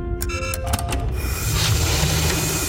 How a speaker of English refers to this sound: I'm opening the inner airlock door now.